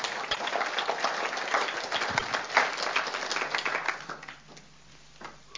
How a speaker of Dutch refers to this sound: Dat is, ja, hè? Bijzonder, hè? Dat is een applaus voor de Heer waard, ja.